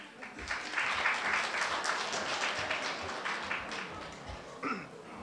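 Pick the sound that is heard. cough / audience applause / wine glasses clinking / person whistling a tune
audience applause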